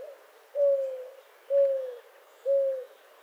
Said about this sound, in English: But other bird species aren't so picky. Take, for example, the mourning dove in North America.